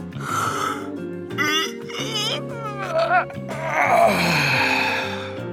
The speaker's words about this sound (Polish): Ledwie zwlokłem się z łóżka. Przeciągnąłem się i ziewnąłem rozdzierająco.